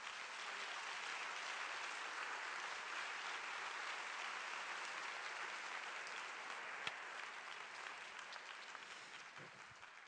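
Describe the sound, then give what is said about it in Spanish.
A crowd applauds steadily for about ten seconds, a dense wash of many hands clapping at once that holds strong throughout and only tapers slightly at the end, giving a loud round of applause to the word of God after a Bible reading about the wedding at Cana. “Te invito esta mañana a que le des un aplauso fuerte a la palabra de Dios.”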